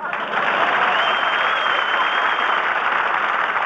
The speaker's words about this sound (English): And now, once again, we bring you the genial, jovial, laughable, affable dispenser of the brand new silver dollars, but very little dialogue for the last few minutes. Groucho Marx, applause.